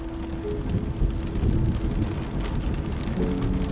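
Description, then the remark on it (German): Heavy rain pours steadily on a small convertible car with its roof closed, a dense continuous hiss with a low rumbling undertone, fairly loud, with no voices. “Der Regen rauscht in ihren Ohren.”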